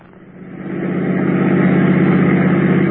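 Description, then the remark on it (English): A car engine runs steadily, its low rumble building over the first second and then holding a constant, throbbing idle with no voices. “All right, park the car, quick.”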